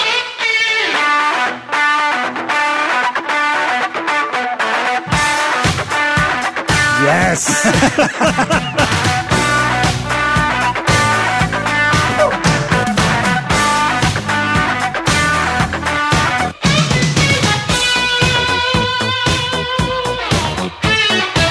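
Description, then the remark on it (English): A loud, distorted electric guitar drenched in effects sweeps back and forth between the left and right channels, with a full band crashing in after a few seconds and a voice briefly speaking. “And then the fact that it pans back and forth if you're listening on headphones.”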